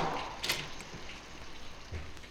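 An unlocked front door is tried and opened: a sharp latch click, then a dull low thud a moment later, over a steady hiss of rain. No one speaks.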